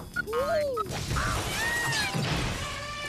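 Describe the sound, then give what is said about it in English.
A cabinet of glass bowls and bottles falls over, crashing down in a loud, cluttered tumble with bright ringing and clinking tones and a quick whistling slide near the start, all within a few seconds. “A cabinet of glass bowls and bottles falls over onto Felix.”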